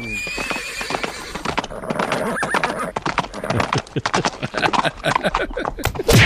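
A horse neighs loudly at the start, then hooves clip-clop in a quick, steady rhythm, loud and busy until the end.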